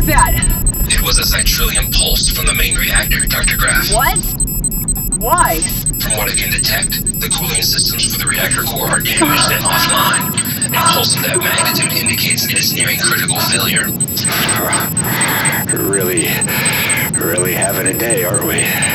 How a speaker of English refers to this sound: Shut off these alarms.